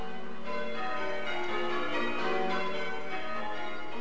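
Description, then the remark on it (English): Church bells ring a peal, with overlapping tones sounding continuously in a dense, resonant wash. The ringing is steady and fairly loud, with no voices. “We're aiming to ring a quarter peal in each of our towers.”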